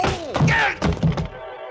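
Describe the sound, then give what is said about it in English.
The flat of a gun strikes the side of a man's head in a quick flurry of heavy thuds and whacks, followed by a brief ringing tail, with a short strained vocal sound among the blows as he goes down to his knees. “The flat of his gun slapped against the side of my head, and I went down to my knees.”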